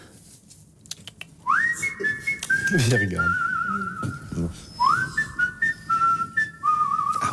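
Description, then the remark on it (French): A clear whistled melody, the theme from the football film Coup de tête starring Pierre Richard: two phrases, each opening with a quick upward swoop into held, stepping notes, with a faint voice and background noise underneath. “Pourtant, elle est sifflée dans le film.”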